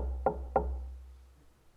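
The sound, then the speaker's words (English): Two firm knocks on a door, evenly spaced about a third of a second apart, dull and woody, followed by quiet with a low hum underneath. “Imagine a church where the head of the church is not even on the inside, is on the outside knocking.”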